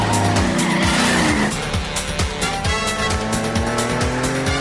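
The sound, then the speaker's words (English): Tires squeal loudly as cars skid during a police chase, driving against oncoming traffic, with engines roaring and revving underneath in a continuous burst of frantic driving noise, and no voices. “The pursuing police are blocked by the oncoming cars.”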